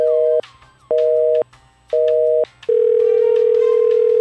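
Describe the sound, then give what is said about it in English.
Three loud, evenly spaced electronic tones like a phone signal, then a long steady mid-pitched answering machine beep that holds to the end, with no voices. “read out your entire rebuttal to the internet after the beep and we will record it in full.”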